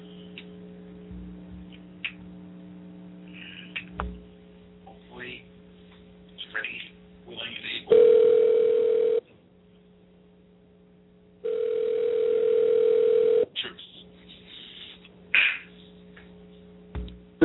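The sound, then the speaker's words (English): A phone line dials with a few short clicks and tones as a Fight News Unlimited show calls a head injury expert. Then two long steady ringback tones sound, separated by a pause, over a constant background hum. “Now we're going to get John on the phone.”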